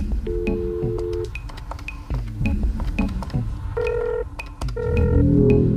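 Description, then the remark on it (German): Dial-up modem noise: a run of steady electronic tones and beeping dial pulses, then a louder burst of harsh, buzzing static at the end, with no talking. “Am besten ist das Modem-Geräusch.”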